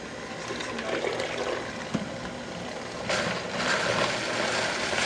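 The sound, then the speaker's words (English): A blender pulses through chopped vegetables (cucumbers, diced red onions, sweet red bell peppers and fresh thyme) in short mechanical bursts, a steady whirring churn that grows louder and busier toward the end, with no one speaking. “Okay, you've got it all in the mixer now? Yeah. Yep. Just gonna pulse this just a bit, throw in some extra virgin olive oil.”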